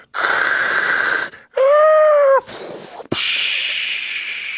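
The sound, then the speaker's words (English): A person vocally imitates a tsunami as a mouth-made sound effect from a box set of oral sound effects: loud hissing whooshes from the mouth, a brief wavering wail, a sharp click, then a long, steady rushing hiss like crashing water. “Oh my god. Tsunami.”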